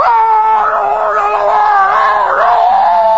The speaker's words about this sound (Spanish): Porque si usted va al dentista, por ejemplo, sí, y se siente en la sala de espera y ya oye los gritos de que está dentro.